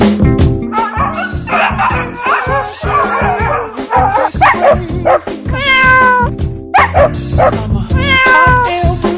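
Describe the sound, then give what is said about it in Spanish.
Dogs bark and yip while cats meow in long, rising cries, the animals overlapping loudly in a busy, nearly continuous chorus with no one talking, introducing a pet discussion segment on Radio Voz in A Coruña. “Pero por lo menos quedamos con perros y con gatos.”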